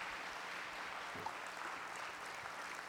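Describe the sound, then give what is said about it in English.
A church crowd at Westside claps in praise of God, a dense, steady wash of applause, many hands blending into a continuous crackling roar with no voices standing out. “One more hand clap right now, would you please?”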